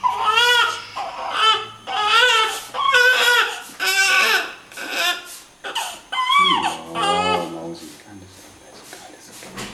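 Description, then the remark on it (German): A newborn girl about a week old, held by her father after he gives her a kiss, fusses and cries in repeated short, high wailing bursts, fairly loud, with brief pauses between cries and the father's low soothing voice toward the end. “Der Papa gibt ein Küsschen und Baby sagt erstmal, nee, ne, das war zu laut oder irgendwie zu unbequem.”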